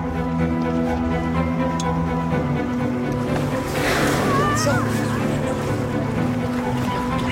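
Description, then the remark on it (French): A boat's engine drones steadily out on the open sea among whales, with wind and sea rushing around it and a louder surge of spray swelling midway before settling back. “Elles vont ressortir devant le bateau”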